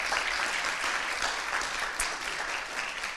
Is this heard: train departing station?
no